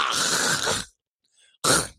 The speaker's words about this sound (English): I'm sorry, I was just clearing my throat.